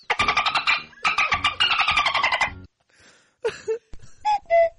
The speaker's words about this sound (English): Yeah, that's a cuckoo clock, not an animal. That's not an animal.